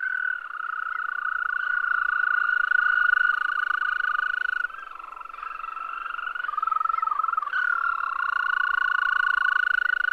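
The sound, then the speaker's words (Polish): Male European green toads give a long, steady, high musical trill, nearly continuous for the whole stretch with a brief dip midway, like a canary's warble, with no talking. “Jeszcze ładniej odzywają się samce ropuchy zielonej. Ich śpiew do złudzenia przypomina trele kanarka.”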